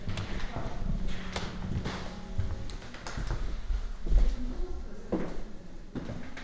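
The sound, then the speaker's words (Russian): Old wooden floorboards creak and groan under slow footsteps in the sacristy of the Trinity-Sergius Lavra, Sergiev Posad, a steady run of drawn-out creaks mixed with soft thuds, with no voices. “Скрип пола в ризнице Троице-Сергиевой лавры.”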